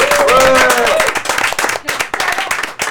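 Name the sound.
audience applause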